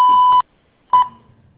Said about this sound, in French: Merci de laisser un message après le bip sonore. Une fois votre message enregistré, vous pouvez raccrocher ou taper dièse pour le modifier.